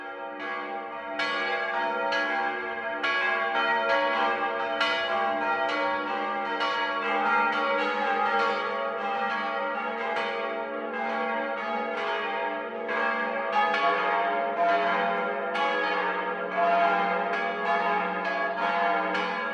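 Several large bronze church bells of the Münster Unsere liebe Frau on the market square in Lindau, Lake Constance, Germany, peal together for the 12 o'clock noon ringing; its tower holds six bronze bells, two from 1772. Overlapping strokes ring continuously with rich, sustained metallic overtones, loud and steady throughout with no voices.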